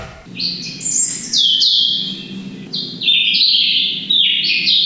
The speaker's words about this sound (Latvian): Tā, nu tad mēs, piemēram, varam dzirdēt, kā dzied sarkanrīklīt, ja?